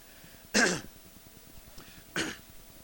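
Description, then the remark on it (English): Two short, harsh coughs or throat-clearing bursts, fairly loud, separated by about a second and a half of quiet with faint background hum. “excuse me, I still have that cough problem.”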